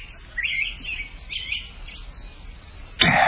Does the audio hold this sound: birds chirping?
yes